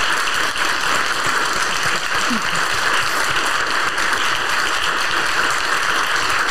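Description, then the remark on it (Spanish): Steady, dense applause from a television studio audience on Azteca Internacional for a guest author, a continuous wash of clapping that holds at an even, fairly loud level for several seconds with no voices standing out. “Damos un aplauso con mucho amor y admiración.”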